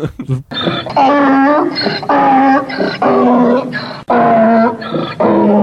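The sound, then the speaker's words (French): A person loudly imitates a donkey's bray, a run of harsh, strained hee-haw calls repeated in quick succession with brief gasping breaks between them, with no other sounds. “Peux-tu lui faire le cri de l'âne, s'il te plaît?”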